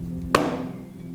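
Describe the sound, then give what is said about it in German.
A single sharp knock on a hospital room door, loud, with a short ringing decay, set against a steady low background hum. “Also ich klopf”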